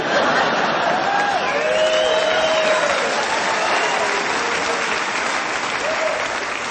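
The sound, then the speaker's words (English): An audience breaks into steady, sustained applause at the mention of Santa Claus, a dense wash of clapping that holds at a fairly even level for several seconds, with a few whoops and voices rising faintly over it. “And those of you who didn't applaud, how bitter are you?”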